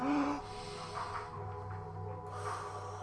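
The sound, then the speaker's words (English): Heavy breathing: a deep, noisy inhale followed by a long exhale, with airy rushes of breath filling the few seconds and no talking. “Man, I just did some real deep breathing.”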